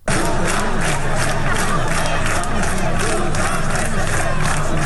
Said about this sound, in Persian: دانشگاه اصفهان بود، دانشگاه تهران بود که شعار میدادند اوین شده دانشگاه، تهران شده بازداشتگاه